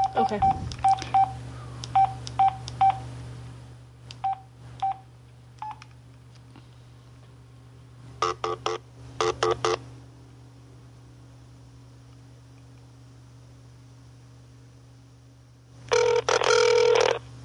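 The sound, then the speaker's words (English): A phone call being dialed live on a radio show: a quick run of short telephone dialing beeps, a few more tone bursts after a pause, then a louder ringing tone near the end, all over a steady low hum. “Hey, we'll call Joshy P.”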